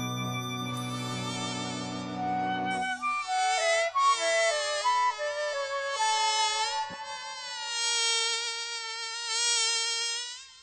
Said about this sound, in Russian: Вдруг откуда-то летит маленький комарик, и в руке его горит маленький фонарик.